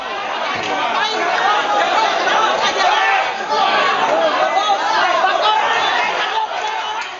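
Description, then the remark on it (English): A dense, loud crowd of many voices shouting and chattering at once in a cockfighting arena in the Philippines, sustained without pause, with excited calls rising over the din as bets are yelled while the birds fight. “And in this one arena, the crowd is roaring and betting as the birds fight each other.”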